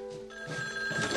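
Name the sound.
telephone ringing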